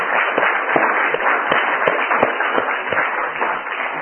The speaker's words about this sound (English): The mothers here to stand so that we can give them really some applause, appreciation for all that they do. All the mothers, please stand.